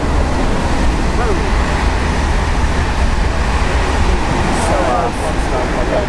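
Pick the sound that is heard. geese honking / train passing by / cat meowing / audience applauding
train passing by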